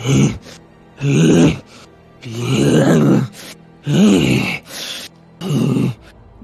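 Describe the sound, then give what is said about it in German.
A voice imitates heavy, snorting breaths coming from behind people walking on: five loud, grunting bursts in an uneven rhythm, each a rough groaning exhale with short pauses between. “Während ihr weitergeht, hört ihr hinter euch einen Schnaufen.”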